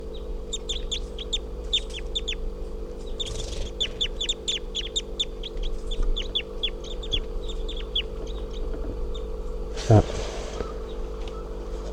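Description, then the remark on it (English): A female bird, number 351, on the ground hopping around, gives a long run of sharp, high chirping calls in quick, irregular bursts over a steady low hum, then falls quiet before a single brief thump. “And I think these are the calls of 351 here.”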